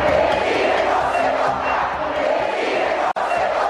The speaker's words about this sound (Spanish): En tanto, miles y miles de personas salieron a rechazar el Plan B. Con una marcha, al grito del INE no se toca, abarrotaron el Zócalo de la Ciudad de México y las principales plazas públicas del país. Así se vivió ese momento.